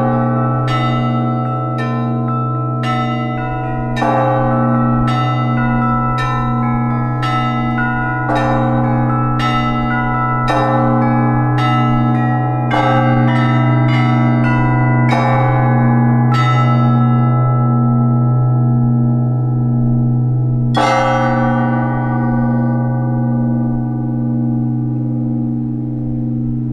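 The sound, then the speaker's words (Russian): Church bells rung by a bell ringer peal in a steady, rhythmic sequence, with many bright strikes layered over a deep, sustained ringing hum. Loud, with no voices. “Узнав про тонкости работы моего героя, я абстрагировалась от всего и погрузилась примерно на 30 волшебных минут в атмосферу, где был только звон.”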